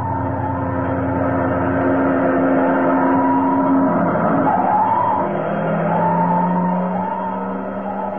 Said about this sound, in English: Uh-oh. What's the matter? Fire engine.